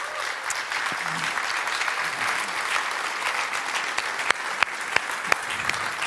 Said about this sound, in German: Ich habe gehört, hier sind Leute schon um 6 Uhr morgens gekommen, damit wir hier einfach reinsitzen dürfen. Da können wir gerne auch nochmal einen Applaus geben.